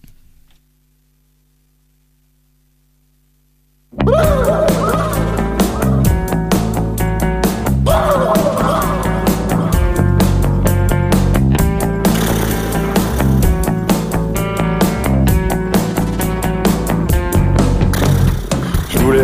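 About four seconds of silence, then a band's song kicks in abruptly: loud, dense music with a steady driving beat and sustained melodic tones, continuing without any voices talking over it.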